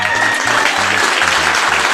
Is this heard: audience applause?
yes